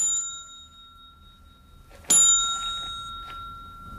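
A single bright ding from a front desk bell in a morgue, rung once by a man and ringing out clearly before fading over about a second, with a faint lingering tone.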